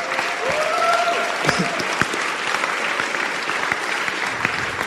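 A crowd bursts into steady, dense applause for God that fills the whole stretch, with a few scattered cheers and whoops rising above the clapping.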